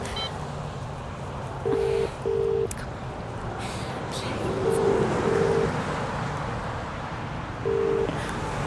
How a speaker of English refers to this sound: Now, don't move, I'm going to phone Ed.